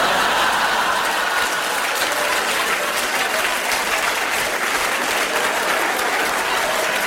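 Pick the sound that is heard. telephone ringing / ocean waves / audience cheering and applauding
audience cheering and applauding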